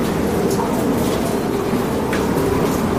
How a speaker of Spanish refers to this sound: Es el sonido del viento y de la lluvia. Lo grabábamos hace tan solo un momento en esta casa, en COPE Sevilla, y que están siendo la banda sonora de este jueves aquí en COPE Sevilla.